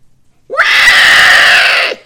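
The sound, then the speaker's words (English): A loud, shrill squeal held for about a second and a half with a sharp rising start, a human voice imitating a pig, standing alone without talk. “I hear a pig. That's a pig.”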